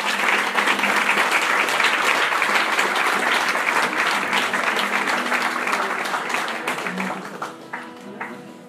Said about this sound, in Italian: l'applauso deve essere per il Signore, ma non per noi. Noi siamo solo degli strumenti.